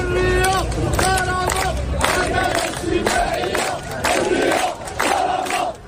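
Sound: protest crowd chanting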